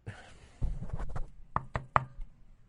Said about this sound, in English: Knock on wood.